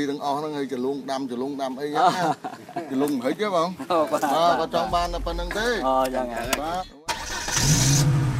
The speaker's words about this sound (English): We get into the car and quickly drive away before he changes his mind.